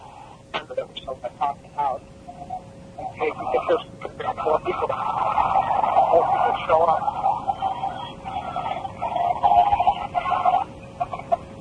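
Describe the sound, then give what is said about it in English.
A crowd of prisoners across a prison chants "Let us go" together: a few scattered shouts at first, then many voices swell into a steady, sustained roar with a tinny, phone-like quality. “And what happens, I'm not sure if this is picked up here or a little later on, what happens is this amazing cheer starts to, or chant begins across the prison, and you can hear people just chanting, "Let us go."”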